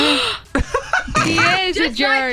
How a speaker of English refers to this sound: The gasp.